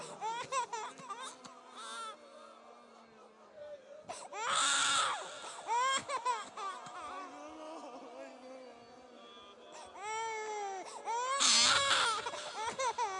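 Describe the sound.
Crying and sobbing rise and fall in strained, wavering bursts, loudest in two sharp wails, with voices murmuring underneath throughout.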